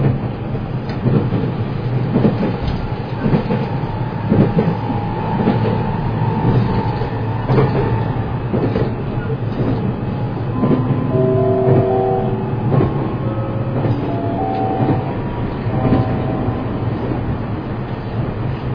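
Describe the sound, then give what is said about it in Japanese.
The No. 22 limited express train bound for Tokyo, next stopping at Awa-Katsuyama, runs steadily with a loud, continuous rumble and faint rail clatter, while thin, rising whining tones from the motors come and go partway through. No one speaks. “この列車は特急ビューサタナギ22号東京行きです。”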